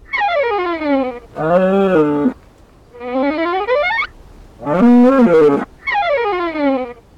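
Cows bellowing in Brittany, France, with a little wind, in a loud series of five long, tonal calls, some swooping down in pitch and others lower and steadier, alternating with short pauses. Nobody speaks.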